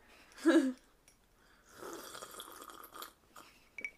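food or drink, slurping a drink

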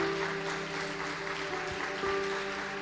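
crowd, audience applause

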